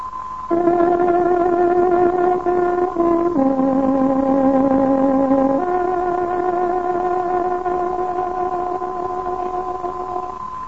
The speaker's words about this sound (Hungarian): Kedves hallgatóink, pontos időjelzést adunk. Tárogatónk hangja 22 órát jelez.